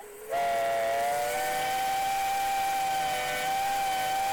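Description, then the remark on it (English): The whistle of the steam liner Oscar II blasts loud and steady after a brief hiss, holding one long harmonic-rich tone with airy steam noise underneath for several seconds, as the ship is about to set sail out of Hoboken, New Jersey, on December 4th, 1915. “Mostly, we're following this ship.”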